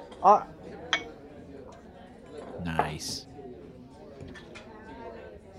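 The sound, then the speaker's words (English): A glass clinks sharply a couple of times, followed by a brief clatter and a soft splashy burst as beer is poured into a glass, with murmured voices in the background. “Since you ain't got a glass over there, here.”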